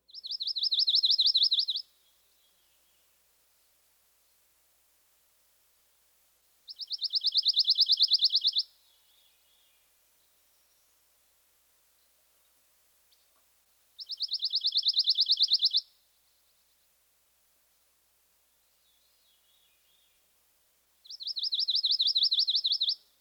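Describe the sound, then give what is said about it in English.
A pine warbler sings its musical trill four times, each a bright, even burst of rapid, loosely strung notes lasting about two seconds, separated by long pauses of near silence. The bird sounds clear. “Our final species is the pine warbler. He also has a musical trill.”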